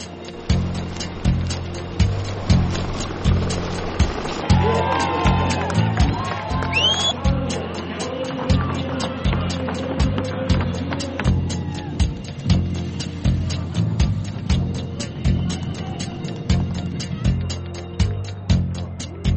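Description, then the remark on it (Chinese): A lively crowd cheers and whoops along the course of a women's triathlon race in Rio de Janeiro, steady, while a pounding rhythmic music beat thumps underneath throughout. “节目最后，我们一起到里约热内卢来看看女子铁人三项比赛的精彩画面。”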